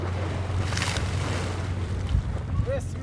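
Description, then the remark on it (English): Water from passing ships' wakes washes and splashes steadily against the European banks of the Bosporus, with a low engine drone and gusty wind noise running underneath throughout. “As the wakes of passing ships splash the European banks of the Bosporus and vendors hawk the ubiquitous Turkish snacks known as simit,”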